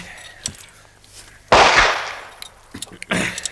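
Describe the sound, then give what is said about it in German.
Gunfire on a beach, rifles fired at men who have landed there: a few sharp reports, a loud, booming shot with a rough, fading tail, framed by smaller pops before and after, with no voices. “Schießen Sie, Mr. Smith! Die Kerle sind schon am Strand!”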